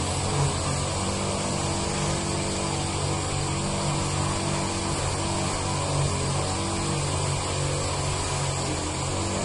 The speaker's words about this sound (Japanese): うるさいななんでこの工事の音まで来るかな。